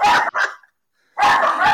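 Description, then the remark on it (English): A pet dog, Elsa, barks loudly in two sharp bursts at a dog being walked outside on a tourist street: first a quick double bark, then a short silence before a longer, harsher bark rings out. “She is pissed off. She's saying you should be choosing White Fang. There's a dog walking outside.”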